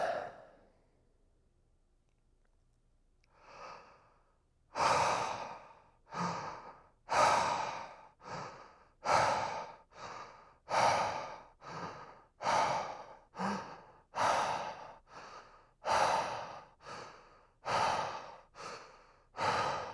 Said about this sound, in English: I just want to show you the breathing technique and how I kind of lay myself down. So arms out, legs out, just very comfortable. You can close your eyes and then you start your timer. And here's what the breathing will look like.